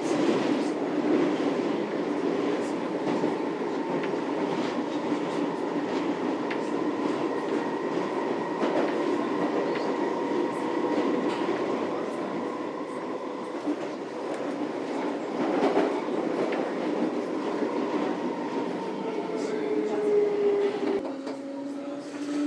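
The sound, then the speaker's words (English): A train heading toward Hammersmith station rumbles steadily along the rails, heard from inside a carriage, with a constant low roar, faint clicking joints and a rising whine near the end as it slows. “I'm going to get off at Hammersmith because it's a slightly bigger station.”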